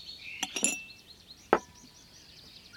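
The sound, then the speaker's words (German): Glasses clink down onto a garden table covered with a yellow flowered tablecloth: a quick cluster of bright, ringing taps, then one more sharp clink a moment later, clear against quiet surroundings with faint high chirping. “Dann noch Gläser”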